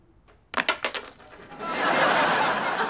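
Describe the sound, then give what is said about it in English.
Coins are thrown at a wedding ceremony just after the couple is pronounced husband and wife, landing in a quick flurry of bright, ringing metallic clinks over about a second, then giving way to a steady, broad rushing noise. “now you throw the coins.”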